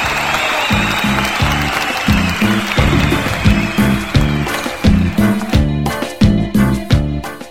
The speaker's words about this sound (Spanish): Asimismo, a todos los que hacen posible la realización de este programa en los estudios de producción radiofónica de Cucú TV, para todos ellos, público conocedor, fuerte el aplauso. ¡Aplausos!